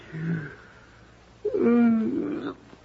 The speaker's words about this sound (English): It's funny, I don't know why I'm yawning. Nerves, I guess.